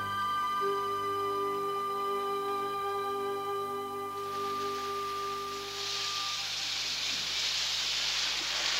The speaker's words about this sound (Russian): Ну и дождь! Ох, какой дождь!